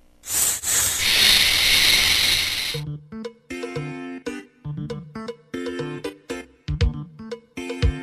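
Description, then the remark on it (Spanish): A snake's loud hiss rasps steadily for about three seconds, then cuts off and gives way to a run of bright, plucky musical notes. “La serpiente.”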